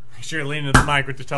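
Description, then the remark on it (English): A single sharp cork pop from a champagne bottle that had been kept in a freezer bursts out loudly in the middle of continuous speech, champagne spraying everywhere, a brief bang over a person talking before and after. “Oh! It popped like a motherfucker!”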